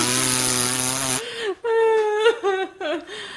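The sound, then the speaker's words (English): A voice imitates a goat hanging over a john boat with its lips in the water, sounding like a boat outboard motor: a steady, buzzy, sputtering drone for about a second, then a string of wavering, whiny voiced hums that rise and dip in pitch. “Because all I could picture was a goat hanging over my John boat with his lips in the water going.”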